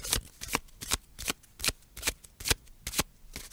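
Playing cards are shuffled in a quick series of about ten crisp, papery riffles, each a short bright burst, coming in a fairly steady rhythm with no voices.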